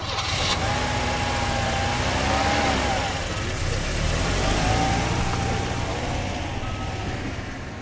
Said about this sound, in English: You are sure to have heard the motor of Philip's car spluttering away. His car won't start.